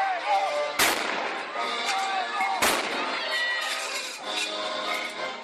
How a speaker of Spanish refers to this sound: Pero no todo es Tchaikovsky y no todos son cañonazos